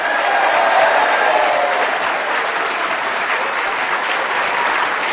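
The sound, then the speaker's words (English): Sustained audience applause welcoming the four panelists, Ross Noble, Jim Rice, Sue Perkins and Tony Hawks, on stage at the show Just a Minute at the City of Varieties: a dense, steady clatter of many hands clapping at an even loudness with no voices breaking through. “Please welcome all four of them!”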